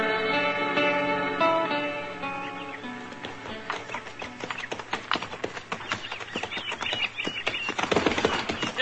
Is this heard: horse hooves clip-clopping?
yes